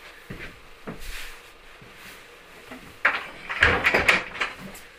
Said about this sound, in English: Hold on there, close the door.